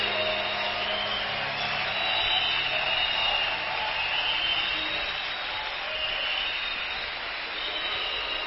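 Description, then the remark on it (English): A crowd claps for Jesus Christ steadily for several seconds, a dense, continuous wash of hand claps with no distinct individual beats and no voices standing out. “Let me hear you clap again for Jesus Christ.”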